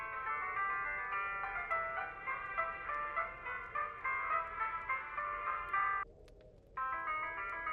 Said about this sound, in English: It's not mine. Oh, really? Someone else has got the ringtone to Murder, She Wrote. Can't believe this. It'll go off in a second.